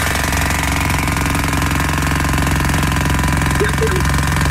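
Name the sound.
jackhammer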